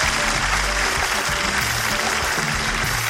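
Steady applause from an audience, a dense wash of clapping that holds at an even, fairly loud level for about three seconds with no voices standing out.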